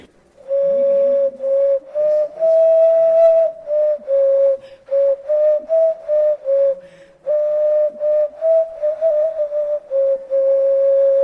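An ocarina, played by someone still learning to pitch its notes and scales, gives a string of pure, hollow whistle-like notes in a narrow mid-high range, with short phrases, brief pauses and slight wavering in pitch. It is fairly loud, with no talking.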